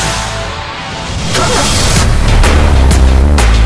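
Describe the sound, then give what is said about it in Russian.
A car engine roars, its deep rumble building louder over a few seconds, with sharp bursts punctuating the revving. “Моторы. Моторы.”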